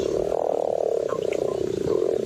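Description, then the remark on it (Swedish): A mating toad, one of some fifty toads mating in a pond in Funningen, croaks in a continuous, rapid purring trill, steady and loud, sustained for the whole stretch with no pauses and no voices. “Det är en pilsk padda. Är det så de låter?”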